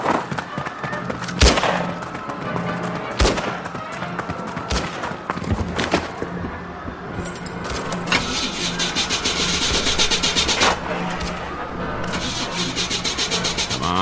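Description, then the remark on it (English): A car engine cranks over and over with a harsh, grinding whir that never catches, broken by several sharp clunks, loud and steady for the whole stretch. “Darn car won't start.”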